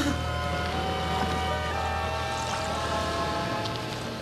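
A small spherical submarine's motor drones steadily as it surfaces in a lake and approaches the shore, pushing further out of the water; a continuous mechanical hum with tonal whine that holds constant and eases slightly at the end.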